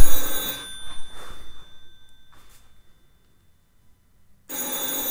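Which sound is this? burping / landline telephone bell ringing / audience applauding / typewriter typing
landline telephone bell ringing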